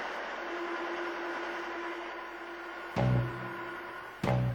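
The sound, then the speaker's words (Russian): A train at a railway station rumbles steadily with a constant droning hum, then two sharp, heavy clanks ring out a little over a second apart. No one speaks. “След вывел их на железнодорожную станцию.”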